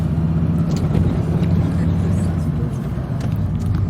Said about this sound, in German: So, ich hoffe, das Auto ist jetzt hier nicht zu laut.